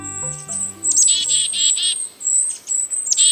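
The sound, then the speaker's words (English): A lively chorus of a mixed foraging flock of birds in a temperate woodland, including chickadees, kinglets and a downy woodpecker, with bright repeated chirps and thin high whistles overlapping, fairly loud and continuous, with no one speaking. “Take a walk in a temperate woodland this month, and you might hear this chorus.”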